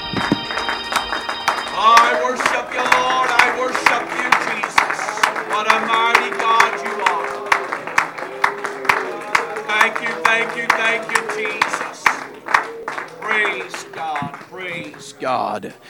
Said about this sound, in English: Let's just give the Lord a good hand clap of praise today.